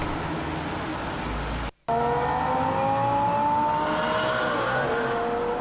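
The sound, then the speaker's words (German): A car drives steadily with a loud, continuous engine roar and droning, slowly shifting tones, broken by a brief silent gap near the start; no siren sounds. “Genau, ein Auto, aber noch keine Sirene.”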